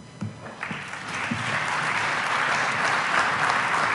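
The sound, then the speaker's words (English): An audience breaks into applause for an MIT Sloan research scientist and author being introduced, starting with a few scattered claps and swelling within a second or two into steady, dense clapping that holds at a strong level. “So please, applause for Mr. Dr.”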